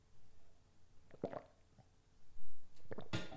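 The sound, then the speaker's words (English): Someone drinks a glass of water: a few wet gulping swallows at an uneven pace, followed by a short breathy exhale and a soft clunk, all fairly quiet with no talking. “Excuse me as I grab a glass of water.”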